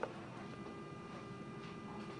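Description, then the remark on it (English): A braille label machine whirs and ticks steadily as it prints and cuts a label, a quiet, continuous mechanical hum with faint clicks and a steady tone, without talking. “And between them is a round button, which is the print cut button. And I'm now going to press that.”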